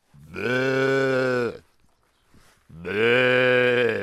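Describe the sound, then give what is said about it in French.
A person imitates a ewe's bleat twice, two loud, drawn-out nasal calls of about a second each, with a short quiet pause between them and no talking. “Tu fais bien la brebis”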